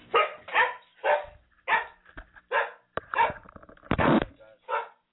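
A guard dog barks repeatedly, about eight loud, gruff barks in an uneven rhythm, with no other sounds around them.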